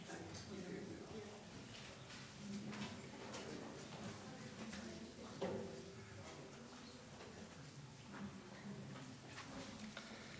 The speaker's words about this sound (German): Ich habe euch hier eine Schublade mitgebracht.